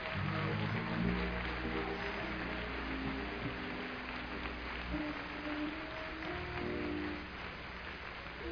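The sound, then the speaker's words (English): An audience claps steadily for several seconds after a choir performance, a dense and fairly loud wash of applause with faint low tones and murmuring underneath, easing off slightly near the end. “Go ahead and give them a good hand clap.”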